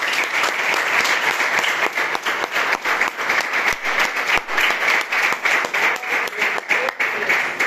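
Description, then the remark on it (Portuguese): Many people applauding for Jesus, hands clapping at once in a dense, continuous wash of sound that stays loud throughout, with no voices standing out. “Você pode aplaudir a Jesus?”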